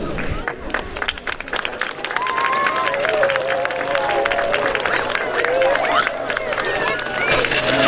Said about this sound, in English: I'd just like to finish with a thank you to all of you for attending here, and I think you should all give yourselves a round of applause.